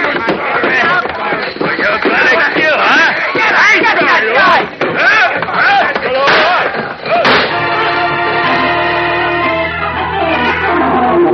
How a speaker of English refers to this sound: Like a man gone berserk, the giant Boris first smashes Leo to the floor with a chair, and the gunman's shots go wildly into the walls.